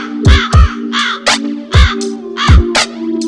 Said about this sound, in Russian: Над лужей крови ворон закаркал, блять.